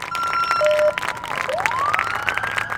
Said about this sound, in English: Roughly 100 people lined West Broadway Street in front of St. Patrick Hospital to honor the Palmer's return to Western Montana and cheer on his motorcade escort.